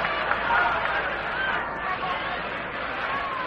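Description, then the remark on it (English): A steady, low crowd murmur fills a ballpark at a National League baseball game involving the Braves, with the crowd still filing in, the stands not yet filled and the weather dubious; many indistinct voices blend into a continuous hubbub and no single speaker stands out. “The outfield is just a little to the left of straightaway, and the crowd is still filing in.”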